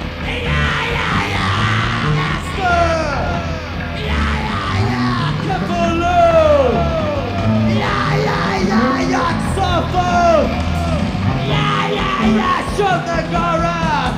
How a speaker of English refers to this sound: The populace starts falling to the gigantic white corpse worms with human heads scream again and again.